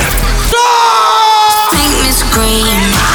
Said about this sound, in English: Scream.